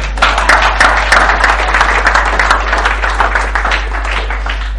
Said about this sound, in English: Cool? Okay, just we clap them.